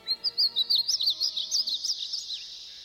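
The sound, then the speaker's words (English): A painted bunting in a tree near a pond sings a rapid, sweet warbling song of high, tumbling notes in a steady rush of bursts, starting loud and gradually softening; no voices. “And then I heard their song, like a dream fading away.”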